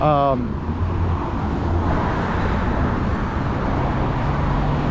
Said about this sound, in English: Look at all these losers stuck in traffic.